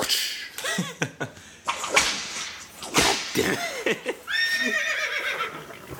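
A horse gives a loud, quavering whinny near the end, following a run of sharp cracks and hollow clops.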